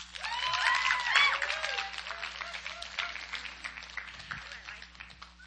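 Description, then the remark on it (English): An audience applauds a woman being introduced, with steady, dense clapping, joined early on by whoops and cheering voices, swelling in the first second or so and then tapering off gradually. “So let's clap for her.”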